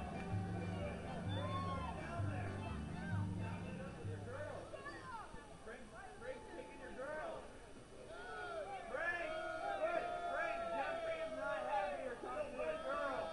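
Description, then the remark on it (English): A vocal baseball stadium crowd at a night game involving the Captains keeps up a steady wash of overlapping shouts, calls and chatter, with a low rumble underneath during the first few seconds. “Well, the crowd is... They're adventurous tonight, getting after it. Vocal”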